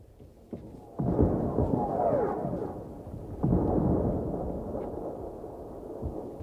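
Two deep, muffled wartime gunshots boom a couple of seconds apart, each rolling out into a long echoing rumble with no voices present.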